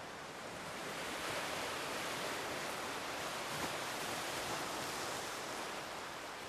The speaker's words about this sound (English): I'm pretty sure that even after I can no longer hear the sounds of the waves, that I'll still come to the beach because I'll still have those visual cues.